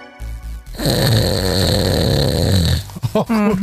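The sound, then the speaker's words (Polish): A person loudly imitates snoring with a long, rough, rattling inhale that rumbles for about two seconds, followed by brief voiced sounds at the end. “ale z każdym rokiem chrapie coraz głośniej i głośniej.”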